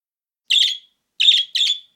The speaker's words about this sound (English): Suddenly, the Tin Man heard cries from a baby bird.